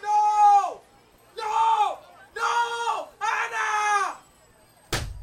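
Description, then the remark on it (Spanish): A woman's drawn-out screams ring out in four long, anguished bursts with brief pauses between them, loud, as she falls from the 34th floor of a building on a street in Soho, New York, on 8 September 1985, before a sudden sharp thud of her body hitting a shop's roof cuts everything off. “En una calle del Soho de Nueva York, caen gritos del cielo.”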